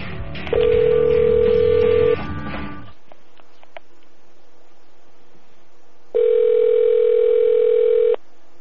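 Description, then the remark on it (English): A steady telephone dial tone hums loudly, cuts off, then a few faint button presses follow in near silence before another two-second burst of ringback tone sounds, as someone calls a man back. “I'm going to call him back and explain that to him.”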